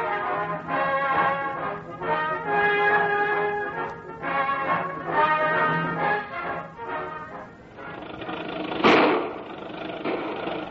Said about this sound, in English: Riders, today's adventure begins on one of the back roads of the Big Bend. An ancient jalopy is chugging its way along the road, snorting and backfiring, as though to voice its protest against the tiny little old lady who sits behind the wheel